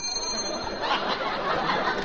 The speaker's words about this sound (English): I'll knock on the door. Nope, I'll... That's what we get for not rehearsing this. I forgot. I'll ring the bell.